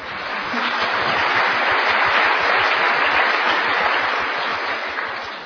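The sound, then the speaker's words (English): A church audience at a baptism claps together in sustained, dense applause lasting several seconds, many hands blending into a steady, even roar with no voices rising above it. “I'd like to ask you to hold your applause and sing until after we've baptized both of them.”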